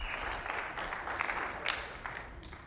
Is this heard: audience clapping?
yes